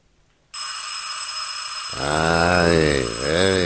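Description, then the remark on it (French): An unanswered agency office telephone bell rings steadily, a continuous bright metallic trill, and partway through a man's voice comes in over it, drawn out and wavering, as the ringing carries on underneath. “Ça remet ça. Ah, vivement que les PTT se décident à me couper la ligne.”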